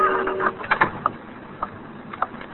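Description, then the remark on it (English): A clock in a darkened shop ticks off the minute with a handful of sharp, dry mechanical clicks at uneven intervals over a low background hum, opening with a short whirring mechanical tone. “Just the clock ticking off the minute.”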